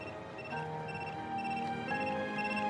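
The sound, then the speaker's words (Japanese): A telephone rings continuously, its steady electronic warble sounding fairly loud throughout, with no one speaking over it. “もしもし、理事長。はい、鬼塚君の携帯繋がらなくて。”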